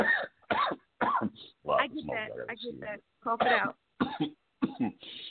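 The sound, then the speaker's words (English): A run of harsh, raspy coughs from smoke held in the mouth comes in uneven bursts with short gaps, mixed with throat clearing and strained, voiced sounds as someone tries to speak between the coughs. “I was trying to talk while I had smoke in my mouth.”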